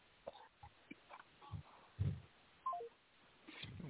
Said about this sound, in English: Oh, was that a house phone? Yeah, house phone. Wow. Landline.